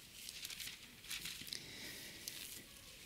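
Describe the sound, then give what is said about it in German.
Soft, papery rustling from pages being turned to Acts (Apostelgeschichte) chapter 1, with a few brief crisp flicks over about three seconds, quiet, with no voices. “Nicht weit blättern darum, gucken wir uns diese Stelle noch an.”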